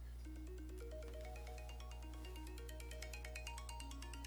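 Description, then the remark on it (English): A mobile phone that was not turned off rings, its ringtone playing a bright, stepping electronic melody with repeated short notes, steady and fairly loud over a constant low hum, with no voices. “That's what happens when you don't turn off your phone.”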